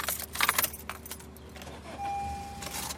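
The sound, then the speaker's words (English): A car is put in gear before merging into East Boston traffic on a muggy, hot early-August afternoon: keys jingle and rattle in quick bursts, then a low hum with a thin steady tone holds for the last second or so. “Vernon Walker puts his car in gear and merges into the East Boston traffic”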